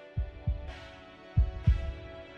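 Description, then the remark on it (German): A thudding heartbeat sound effect: two deep lub-dub double beats, evenly spaced and fairly loud, over a steady low droning hum in the background. “Außerdem erhöhte sich ihr Blutdruck und Herzschlag enorm.”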